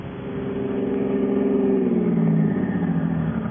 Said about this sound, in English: What's the matter? Something wrong with the car. Why don't you get out and look at the motor?